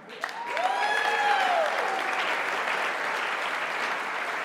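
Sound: audience applause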